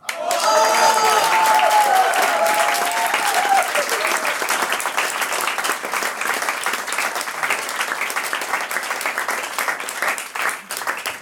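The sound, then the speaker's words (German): Steady applause from an audience at an evening event, thanking the speaker for the talk: dense rapid clapping that holds at a loud, even level for about eleven seconds, with a few cheers or voices rising briefly near the start. “sagt dann recht schön Dank fürs aufmerksame Zuhören und für den Applaus.”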